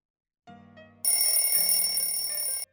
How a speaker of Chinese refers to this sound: 闹钟的声音将林少荣唤醒